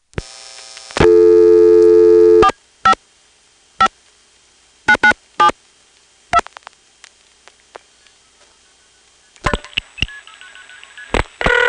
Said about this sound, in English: So once we cut through to Arlington, you'll hear Arlington getting a flash from a 2600 controlled trunk to Springfield and MFing into it.